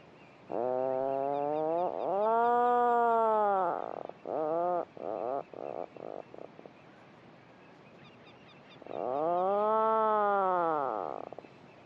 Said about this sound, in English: all this honeycomb effect of birds calling and answering to each other from below the surface and within their burrows, with this lovely, deep, rolling motorbike droning sound, which again they call and listen for a reply from their neighbour.